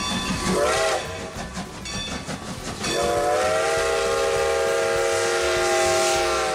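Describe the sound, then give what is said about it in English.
A train rumbles and hisses steadily as a whistle blows, first in a short wavering toot, then a long sustained blast held to the end. No voices. “All right, we're pulling into the station.”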